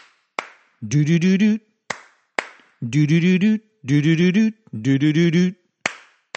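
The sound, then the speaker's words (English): Sharp single hand claps, in pairs and alone, alternate with a voice humming a bouncy, syllable-by-syllable tune, the claps marking pauses between the hummed phrases. “To clap, C-L-A-P, is to put your hands together to make a noise, like this.”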